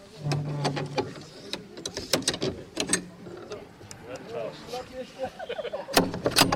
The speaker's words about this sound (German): Jetzt habe ich die Tür offen gemacht.